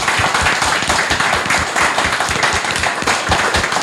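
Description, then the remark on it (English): A crowd claps steadily throughout, dense overlapping hand claps forming a loud, sustained wash of applause with no voices standing out. “So round of applause, I think, that deserves anything.”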